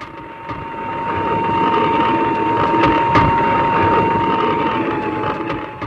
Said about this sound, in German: Einer Draisine kommt auf anderem Gleis eine zweite entgegen. Darauf ein Mann, der pfeift. Unmittelbar nach der Begegnung klingt der Ton der Pfeife tiefer, weil sich der Hörer von der Schallquelle entfernt.